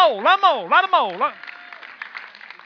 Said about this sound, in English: Amen? Clap. Go on. Come on. Come on.